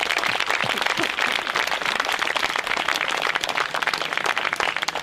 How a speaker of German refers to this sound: Vielen Dank für das Organisieren und Aufbauen. Mal einen dicken Applaus hier für alle Techniker und die Band.